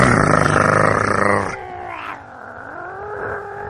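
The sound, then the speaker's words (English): A person imitates a dog's growl: a loud, raspy, rumbling snarl for about a second and a half, easing into a smoother, wavering throaty groan that trails off. “That's why, that's like the dog, it's like, you think of the dog growling.”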